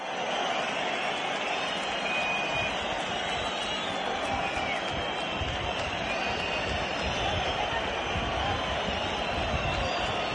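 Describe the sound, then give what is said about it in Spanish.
A huge bullring crowd roars and shouts continuously, a dense wall of voices demanding ears for the matador César Rincón, with a steady, unbroken loudness and sharp whistles cutting through the din. “Esta marabunta de gritos es la petición de orejas al maestro César Rincón.”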